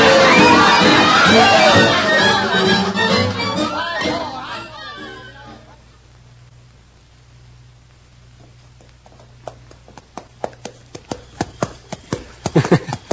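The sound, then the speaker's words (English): Horse hooves clip-clop in a steady, quickening rhythm, growing loud after a quiet stretch, as two people ride off together on horseback, following an opening of busy crowd chatter and voices that fades away. “I got my horse hitched right by the door.”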